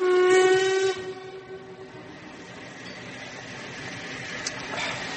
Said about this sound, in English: Weren't we supposed to get that train? Was that the London train?